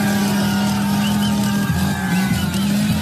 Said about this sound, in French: Des coups de tronçonneuse acclamés en pleine manifestation pour illustrer les coupes à venir dans les dépenses publiques.